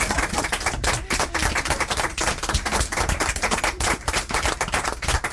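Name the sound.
audience applause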